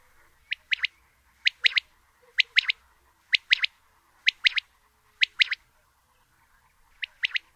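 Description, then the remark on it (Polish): A common quail's soft territorial call, recorded in Poland, repeats seven times at a steady pace, each a crisp three-syllable phrase stressed on the first and last syllables with a small gap between the first and second, clear against a quiet background with no voices. “Wówczas usłyszeć można jej charakterystyczny, miękki głos terytorialny. Składa się on z trzech sylab z akcentem na pierwszej i ostatniej sylabie oraz niewielkim odstępem między pierwszą a drugą sylabą.”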